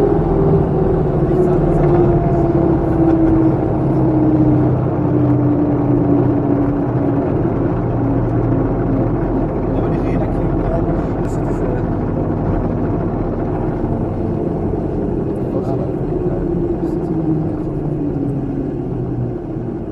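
A very small airplane's engine drones loudly and steadily throughout a flight to Mannheim, Germany, at about 58 knots, a dense rumbling roar with a humming tone that slowly sinks in pitch.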